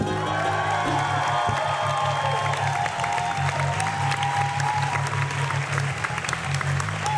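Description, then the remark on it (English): A crowd applauds Ben Jenkins steadily and loudly for several seconds, a dense wash of clapping with a few faint whoops and cheers mixed in and a low hum underneath. “Round of applause for Ben Jenkins.”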